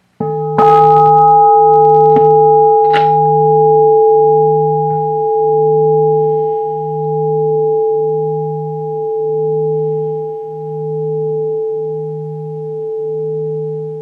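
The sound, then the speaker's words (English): A gong is struck once and rings on in a long, sustained hum, its low tone pulsing in slow waves as it slowly begins to fade, with no voices. “But in any case, seize that sort of moment and look straight out and listen to the sound of the gong almost until it's gone.”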